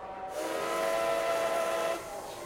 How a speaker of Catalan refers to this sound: Estació França. Atención, último aviso. El tren va a efectuar su salida con destino a Madrid.